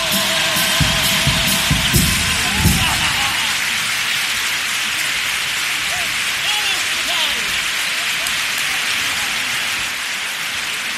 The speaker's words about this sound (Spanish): Aplauso unánime del público a este paso doble, en el que recuerda la figura no solamente de un abuelo como el sostén de una familia, sino también luchando en la calle por las pensiones.